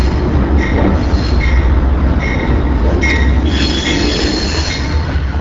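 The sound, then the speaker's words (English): The Amtrak Empire Builder passenger train rolls slowly into the station at Milwaukee, Wisconsin, on its way from the West Coast to Chicago; its heavy rumble is loud while metal wheels squeal in high, wavering tones throughout, with no voices. “The Empire Builder pulls into Milwaukee after stopping at five other Wisconsin cities on its way from the West Coast to Chicago.”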